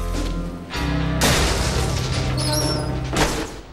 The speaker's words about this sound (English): Jack arrives at a steel inner door and boots it open.